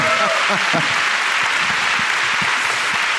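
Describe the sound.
A crowd at a live show claps for a speaker who has just told a story, a dense, continuous wash of applause, with a few faint voices briefly audible underneath at the start.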